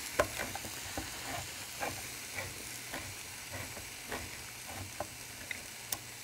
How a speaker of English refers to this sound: There we go. Stir that around. You want to make sure the tomatoes are in before the spices start to burn.